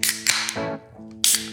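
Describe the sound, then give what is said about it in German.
A voice imitates the sound of Thor's hammer striking, with sharp, bursting impacts: two quick hits, a lower rumbling ring that fades, then a final crack. The bursts are loud and harsh. “Er macht jetzt hier das Geräusch von dem Thor's Hammer.”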